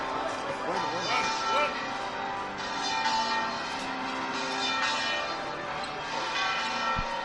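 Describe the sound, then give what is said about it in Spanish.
The bells of the Giralda tower peal steadily, their overlapping tones ringing continuously as the procession floats of the Hermandad del Cachorro, including the Cristo de la Expiración, come out, while a crowd murmurs and voices chatter underneath. “Y eso que escuchan son las campanas de la Giralda que acompañan el salir de los pasos, ahora sí completamente fuera, el paso del Cristo de la Expiración de la Hermandad del Cachorro.”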